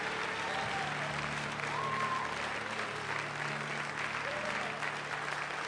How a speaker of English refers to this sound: Boy, that's faith to give somebody a standing ovation when you haven't even heard him.